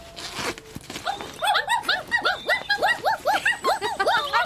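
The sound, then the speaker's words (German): Three puppies inside a bag lying in the middle of a road yelp and whimper in a rapid, overlapping chorus of high squeaky cries, steady for several seconds after a brief noisy start. “Ja, was seid ihr denn für süße Hundebabys? Eins, zwei, drei kleine muntere Kerlchen.”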